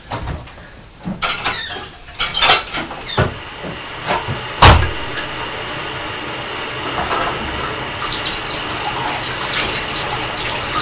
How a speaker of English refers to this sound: Can you hear the kettle boiling?